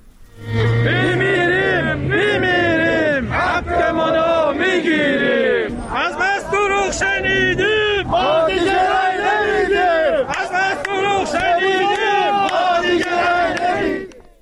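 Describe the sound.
A crowd of protesting pensioners chants slogans in unison inside Social Security Organization buildings in Kerman and Shush, loud rhythmic shouted phrases repeating with brief pauses, voices overlapping and sustained throughout.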